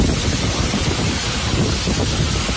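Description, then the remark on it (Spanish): A dense, steady roar of heavy rain with hail pounding down during an intense downpour in Mérida, loud throughout, with no voices over the continuous downpour. “La cadena COPE recogió ayer el sonido tanto de la granizada como de la lluvia”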